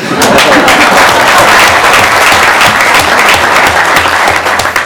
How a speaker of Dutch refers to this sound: Dus die dames die verdienen echt een heel groot applaus.